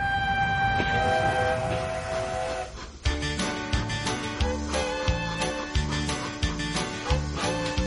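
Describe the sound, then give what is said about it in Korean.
A train horn sounds in long sustained blasts, then gives way to a steady rhythmic clatter of a train rolling along the rails on a cross-country train trip across the United States, loud, with no voices. “자, 그럼 아만다와 함께 미국 대륙횡단 기차여행 한번 떠나보시죠.”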